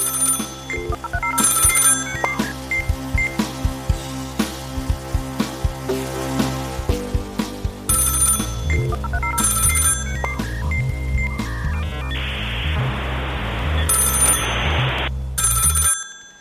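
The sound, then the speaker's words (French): An old 3310 mobile phone ringtone plays a loud, bleepy electronic melody that loops repeatedly with a steady beat, briefly joined by a hissy burst of noise near the end. “Pourtant, il est évident que je me sens beaucoup mieux avec mon vieux téléphone pourri qu'avec un smartphone, malgré les petites emmerdes au quotidien que cela peut générer.”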